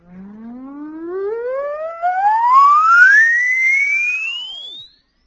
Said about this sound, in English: The average dog can hear up to 40,000 cycles. I'll play an oscillator for you. You write down a mental note of where you can't hear anymore.